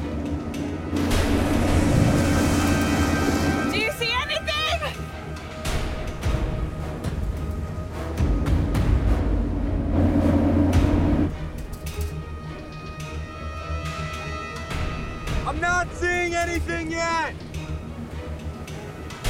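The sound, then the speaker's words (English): A rescue boat's motor drones steadily as it makes its way around an island, a low rumbling hum with the rush of moving water, while brief chirping calls rise above it twice. “The rescue boat makes its way around the island.”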